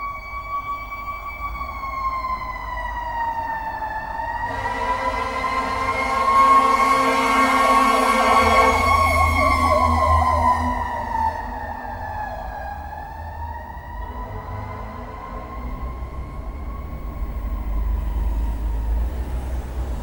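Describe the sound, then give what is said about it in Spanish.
A fire truck siren wails in slow rising and falling sweeps in San Telmo on a rainy Sunday, peaking at 85 decibels over a 48-decibel background, swelling loudest as the vehicle passes mid-way with engine rumble, then easing back under steady low traffic noise. “En un domingo lluvioso, sobre un fondo de 48 decibeles, acabamos de escuchar una sirena que llegó a los 85.”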